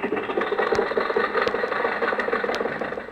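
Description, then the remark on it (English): An old car engine idles steadily and fairly loudly at a traffic light, with a rough, rattling chug and a few sharp clanks breaking through the continuous rumble. “Okay, Rochester, the light changed. You can go now.”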